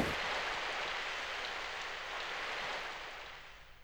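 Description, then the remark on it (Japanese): Steady rain pours down in a dense, continuous hiss, even throughout, easing slightly only at the very end. No voices are present. “おお、雨の中ご苦労だった。”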